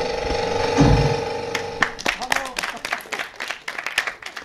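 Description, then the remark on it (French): A sustained, steady tone gives way to a cinema audience bursting into applause at the first images on the big screen, before the film, as cinemas reopen; many hands clapping in a dense, uneven patter that carries on to the end. “Voilà, des applaudissements pour exprimer la joie de retrouver les salles obscures.”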